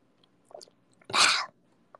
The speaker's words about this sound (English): Speaking of coconut water, I'm gonna take a nice fresh sip of it.